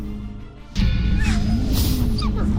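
High, wavering whimpers from a wolf rise and fall in short pitiful glides over a loud, rumbling background of game noise and thuds, with no talking.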